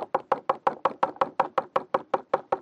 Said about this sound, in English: But the knocking doesn't stop.